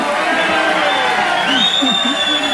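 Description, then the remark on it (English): A large crowd cheers and shouts loudly without pause, many voices blending into a dense roar with a few high-pitched yells rising above it. “Wow, what a crowd.”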